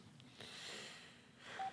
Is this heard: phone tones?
yes